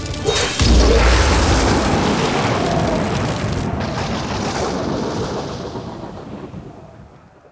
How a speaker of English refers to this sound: The blast knocked us all unconscious.